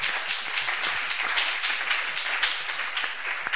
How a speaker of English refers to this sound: Oh, you can clap your hands.